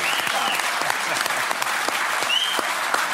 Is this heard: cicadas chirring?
no